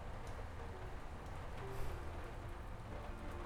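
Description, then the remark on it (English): Soft, steady rain patters continuously in the background, a faint, even hiss with scattered light drops and no voices. “Let's just lay here for a little bit, baby. Listen to the music and the rain.”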